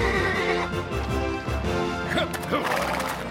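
A white horse ridden by Sheriff Bob, a tall rider coming from the west, neighs loudly, its whinny wavering up and down over a busy, full backdrop with hints of clopping hooves.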